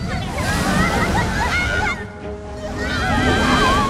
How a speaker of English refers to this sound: A gush of water carries them into the drain.